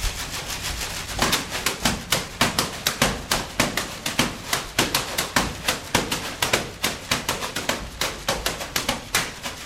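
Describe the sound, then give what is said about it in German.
Rapid, steady crisp slaps and crackles of paper bags being struck as percussion by four young percussionists in a paper program for a festival, bright and papery, keeping a brisk rhythmic pattern with no voices. “Ein Programm, wo Papiersäcke gross rauskommen.”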